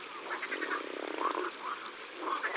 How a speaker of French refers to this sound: Oh là, il y en a d'autres qui se réveillent. Il y a des grenouilles rieuses aussi. Wahahaha.